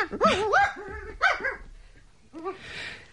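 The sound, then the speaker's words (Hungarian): A dog barks in a few short, high-pitched, slightly whiny bursts, the first two in quick succession, then a brief pause before a final yelp. “Értenél kutya nyelven.”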